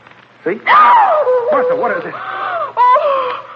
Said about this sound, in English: why did you scream? Oh, just my nerves. I told you this place was frightening me.